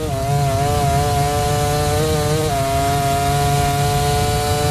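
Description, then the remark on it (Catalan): Pecco Bagnaia's Ducati MotoGP racing motorcycle, the world champion's bike, screams at high revs on a fast lap, a loud, steady buzzing whine with a brief dip in pitch partway through, then holding its shrill tone to the end. “Aquesta és la Ducati del campió del món”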